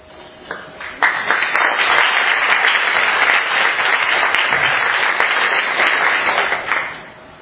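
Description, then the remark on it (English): An audience bursts into steady, sustained applause for two speakers after their talks, a dense wash of many hands clapping that holds for several seconds before tapering off at the end. “All right, let's give James and Shadid a round of applause.”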